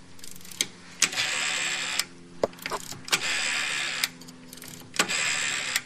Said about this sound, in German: Das ist eine Telefonwählscheibe. So hat man früher telefoniert.